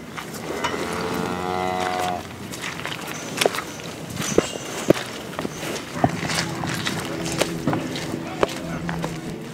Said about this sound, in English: The product of the hundreds of cows to our right.